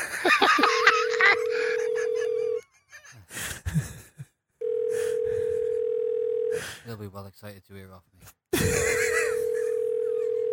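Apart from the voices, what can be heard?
telephone ringing tone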